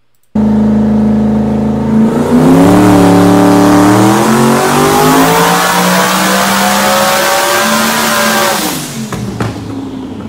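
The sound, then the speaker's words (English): A powerful turbocharged engine in Lund Racing's car, the Grey Goose, making a dyno pull at 30-something PSI of boost, holds a steady idle-like drone, then revs hard with harmonics climbing in pitch for several seconds before cutting off abruptly, followed by a brief sharp pop and lingering hiss. “The Grey Goose making a pull at 30-something PSI.”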